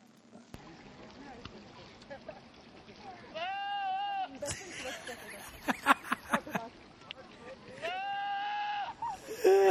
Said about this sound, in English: This is a video of goats making stupid noises off of YouTube.